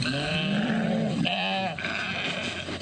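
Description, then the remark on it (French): Sheep bleat loudly and continuously, one long wavering cry running into another, with a busy livestock market crowd murmuring faintly in the background, in Bamako, Mali. “Bamako, plusieurs acheteurs se plaignent du prix élevé du mouton.”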